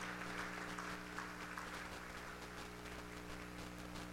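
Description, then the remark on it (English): An audience claps steadily for several seconds during a church sermon, giving the Lord a hand clap, a dense, continuous wash of many hands with a low electrical hum underneath and no talking. “Come on, somebody give the Lord a good hand clap this morning.”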